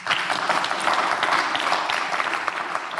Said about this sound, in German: Jawohl, und einen Applaus nehmen wir auch noch mit.